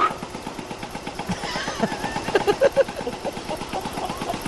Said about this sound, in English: I don't know what that's supposed to do, but it says compressor. It sounds like a typewriter, doesn't it? Yeah. Let's see. Oh, it sounds like a compressor.